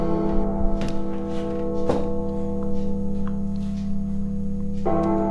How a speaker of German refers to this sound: Ja, Leute, schon wieder kommt die Glocke. Das ist so das Lied, das sehr häufig auftaucht bei mir.